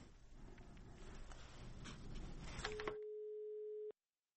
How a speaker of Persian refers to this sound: بله مولوی صاحب، تلفن تان بخیالم قطع شد، مشکل. مولوی صاحب مرا میشنوین؟